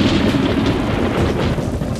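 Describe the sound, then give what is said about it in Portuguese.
A heavy, continuous rumble of thunder from a lightning strike rolls on without a break, loud, with deep low-end roar and crackly noise spread across the sound. No voices are heard. “E como as nuvens são formadas por água e gelo, quando esses pedacinhos de gelo se encontram no céu, acontecem os raios.”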